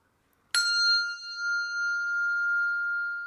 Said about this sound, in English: When you despair, ring one bell for hope.